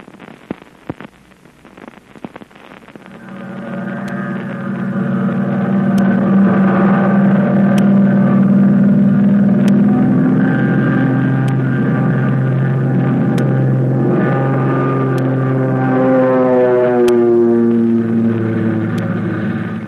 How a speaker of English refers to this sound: American plane with Flip Corkin at the controls is streaking through the sky toward Yokohama, nearly 2,000 miles away.